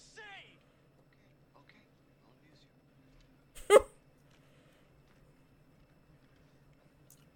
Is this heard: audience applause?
no